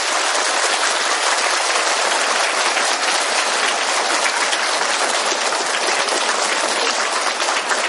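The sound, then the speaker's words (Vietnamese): Sustained applause from a large audience welcoming the Venerable lecturer monk (Đại Đức Giảng Sư), a dense, steady wash of clapping at even loudness that runs throughout without pause, with no voices rising above it. “Xin quý vị cho một tràng pháo tay để chào đón Đại Đức Giảng Sư.”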